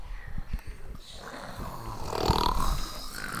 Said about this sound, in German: Die Wachen lagen in der Ecke und schnarchten.